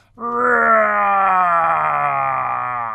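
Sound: monster roar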